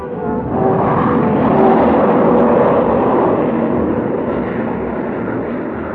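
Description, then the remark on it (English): A huge freighter craft roars overhead, a loud, steady rumbling drone with a faint whine that swells quickly and holds for several seconds before easing slightly. No voices. “little more than an hour after Jet had spoken to Frank, the huge freighter passed overhead”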